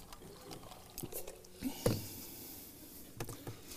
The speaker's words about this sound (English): So, anyway, let me take a drink of water here.